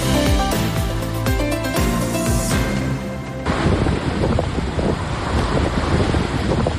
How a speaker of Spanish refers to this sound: El viento, banda sonora del día.